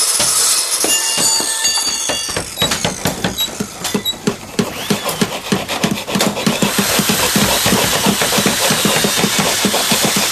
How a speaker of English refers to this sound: Hold on. I got to start up my saw.